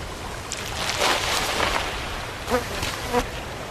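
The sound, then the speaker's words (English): Flies buzz around sea lions on a shoreline in short, wavering bursts, their drone rising and fading over a steady wash of outdoor background noise, with no one speaking. “The lizards rid them of flies, which can be a ticklish nuisance.”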